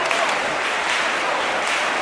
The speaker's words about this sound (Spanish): Comienzan las palmas y es porque ya la ven. Pero ya lo están viendo, claro, todas las miles de personas que ahora mismo se concentran en esta. Así suenan palmas. Suenan las palmas en el suenan las palmas en el interior del templo.